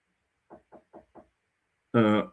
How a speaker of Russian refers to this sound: Извините, одну секунду. В дверь стучат.